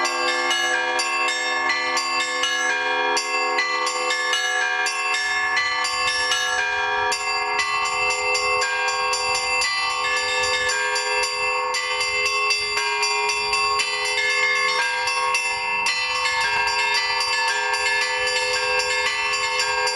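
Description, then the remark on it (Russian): Church bells ring continuously in a composed peal, an authored bell-ringing composition, many bells of different pitches overlapping in a steady, dense pattern with long shimmering resonance, loud, no voices. “Сейчас в современной практике есть такая тенденция, как написание звонов, то есть существуют авторские произведения, которые в основном исполняют на фестивале.”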